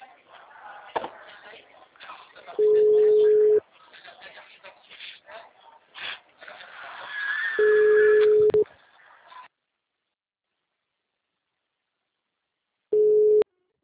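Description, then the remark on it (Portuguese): A steady mid-pitched telephone busy tone after a dropped call beeps three times at spaced intervals, each about a second long, over muffled background noise, with the third beep following a silent gap. “Eu tava falando com a senhora no telefone. A ligação Sim. caiu.”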